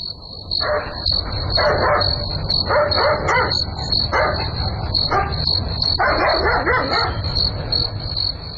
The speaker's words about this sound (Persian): معلوم نمیشه، نمیفهم که سگ چرا میجفه، حتما کرام گپ خو است. آزن چی گپ است که مثل شیشک ده این نصف شب دولی میگردی ها؟ سگ میجفید، من گفتم باش که دوزن آمده باشه، از امی خاطر برامدام. سگ خو کل شب میجفه، حتما پشک دیده.